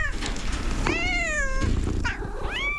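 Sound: cat meowing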